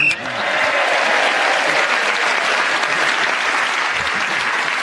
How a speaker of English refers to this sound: And so Clement Freud, in speaking as the whistle went, gained that extra point, and he got other points in the round, and that magnificent round of applause indicates their appreciation of his wonderful tour de force.